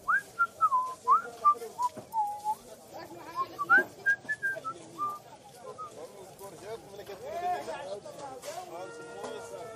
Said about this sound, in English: He smiled at the stall vendor, who was speechless, and walked on, whistling to himself.